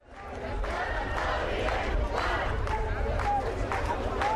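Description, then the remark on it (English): A crowd of a few hundred protesters in Egypt chants in unison against Field Marshal Tantawi, head of the ruling military, loud and sustained, with rhythmic bursts of shouted voices rising over a dense roar of many people, a few whistles piercing through. “Crowds that used to chant against President Mubarak are now chanting against Field Marshal Tantawi.”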